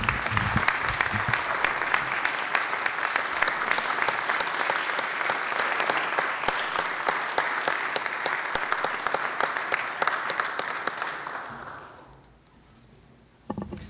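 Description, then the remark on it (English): A crowd in a senate session claps steadily in a dense, even burst of applause for the pages for about twelve seconds, then it fades out quickly into near quiet, with one small sharp knock at the end. “But let's just give a round of applause to our pages and thank them for all the work that they do for us every day.”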